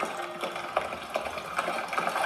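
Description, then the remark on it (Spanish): Horses approaching in Sparta, bringing the Trojan prince: a steady, rhythmic clatter of hoofbeats, repeated sharp thuds over a continuous rushing background noise, with no voices. “¡Son caballos!”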